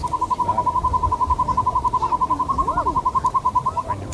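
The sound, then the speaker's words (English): A northern hawk owl gives a long, rapid trill of clipped, evenly spaced notes, steady and fairly loud for about four seconds, with a faint rising-falling call briefly underneath. “And so the hawk owl is actually very comfortable being out during the daytime.”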